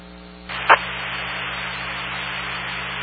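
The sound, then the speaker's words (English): A radio repeater's time-out signal: a low steady hum, then a rush of static hiss with one short, sharp tone near the start, the hiss continuing steadily afterward. “repeater, time out.”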